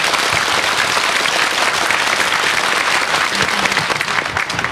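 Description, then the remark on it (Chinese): Sustained applause from a large audience, given for the donors at a Buddhist gathering, a dense, steady wash of clapping that stays loud and even for the whole stretch with no voices on top. “各位菩萨，咱们啊再多以啊最热烈的掌声，告诉供养者阿弥陀佛。”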